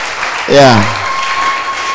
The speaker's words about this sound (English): Oh, come on, put your hands together. Put your hands together. Oh, I like the way you are clapping. I'm getting encouraged.